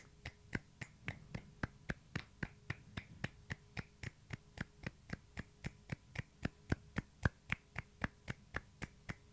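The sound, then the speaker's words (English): Light hand clapping by people clapping at the same time with an irregular beat, about ten seconds meant as a light flurry of applause, a run of about two dozen crisp, sharp claps, each roughly even in loudness, with no voices over them. “But also we were clapping at the same time, which of course is not how people...”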